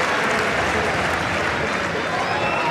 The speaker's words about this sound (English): Oh, an absolute fizzer of a running forehand winner from Cerundolo. It's the best shot that he's hit so far in this match, and Novak Djokovic sportingly just turning to applaud him.